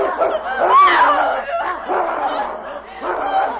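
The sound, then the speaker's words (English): A dog named King barks and snarls ferociously while fighting a huge wolf in the snow in the darkness, loud rough growls and yelping barks running together in several surging bursts with brief dips between them. “My dog's finished him.”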